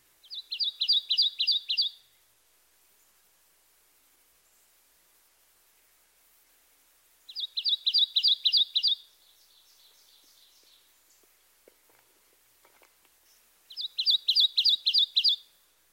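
A Kentucky warbler sings its rolling two-noted song, a rapid string of about six bright, ringing phrases, repeated three times with long pauses between, clear against faint background hiss.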